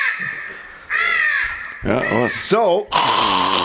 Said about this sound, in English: Play the crow. Cue the crow. I'm surprised that the crow isn't already cued.